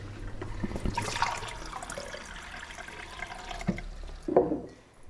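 Water pours steadily into a glass, a continuous splashing trickle with a brief clink near the end and no voices.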